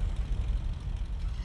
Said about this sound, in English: The aircraft is already vibrating, ready for takeoff.